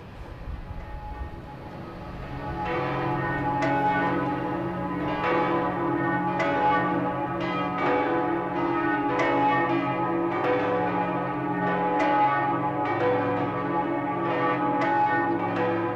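A large church bell in a tower rings steadily, each heavy stroke landing about every second and a half, its deep, rough, very archaic tone humming and overlapping with lingering resonance, its strike note impossible to hum along with. No voices are heard.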